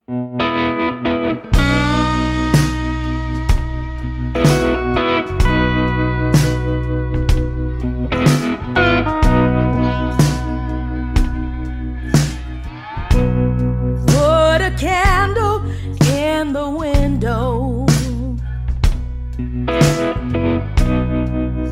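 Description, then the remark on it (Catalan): A blues song fusing blues with more traditional American music plays loud: steady drum hits over sustained bass and rich, effected chords, with no singing yet. “fusionava el blues amb sons més tradicionals de la música americana. Comprovem-ho escoltant aquest tema”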